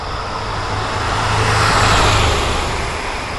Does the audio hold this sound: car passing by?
yes